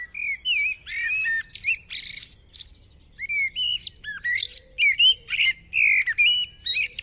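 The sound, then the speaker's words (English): A blackbird sings a varied run of rich, fluting and warbled phrases with brief chirps between them, clear against faint low background rumble, with a short pause midway. “So this is why maybe when we see blackbirds nowadays, they're always up on the roof or on television aerials.”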